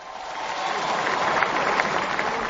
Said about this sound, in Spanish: Y esa es la ovación de la Félix Satrier.